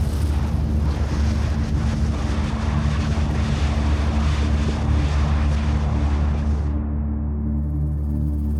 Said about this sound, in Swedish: Den 7 juni, 3 månader efter det första jordskalvet, skjuter en kraftig, nästan 8 kilometer hög pelare av ånga och aska rakt upp i luften.